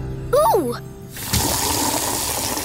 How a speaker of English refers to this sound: Ooh! Why are you filling up that bucket with water